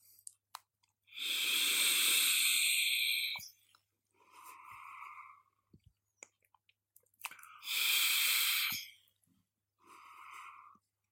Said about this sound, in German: ich würde sagen, ich nehme jetzt einmal einen tiefen Zug vom Pinkman aus dem Newell Crown 3 und werde da so einen kleinen Erfahrungsbericht geben.